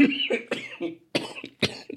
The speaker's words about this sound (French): Ah oui, et je suis encore un peu malade, donc si je tousse, c'est normal, vous serez prévenus.